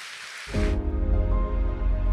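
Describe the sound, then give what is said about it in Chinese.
A brief burst of dense audience clapping to welcome a film about to be shown, a hissy wash of many hands that cuts off after under a second as low, droning music swells in. “接下来让我们一起先来看一支影片，我们拍手来欢迎这个影片。”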